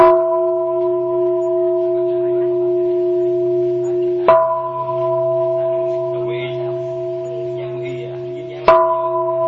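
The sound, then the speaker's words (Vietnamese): A temple bell struck three times, roughly four seconds apart, each loud strike blooming into a long, steady ringing hum that carries on into the next. “Bây giờ quý vị lắng nghe nè, đánh 3 tiếng chuông nè.”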